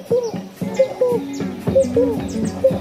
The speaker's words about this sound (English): I started really feeling different, feeling lighter, feeling happier, feeling more aware of the sounds of the forest. There was this frog making this sound.